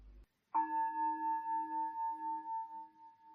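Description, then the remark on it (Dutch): A meditation bell is struck once and rings on alone, its clear tone slowly fading with a gentle pulsing wobble over a few seconds. “Recovery Dharma, stilte, bel meditatie.”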